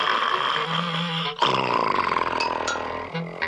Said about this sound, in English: Oh dear, I'll never get to sleep with … snoring like that.